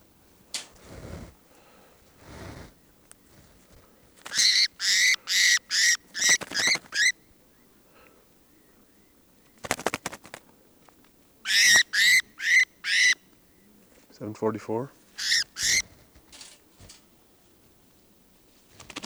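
Birds call outdoors in bright, loud bursts of five or six quick chirps separated by pauses, with one lower, buzzy warbled call near the end and no talking.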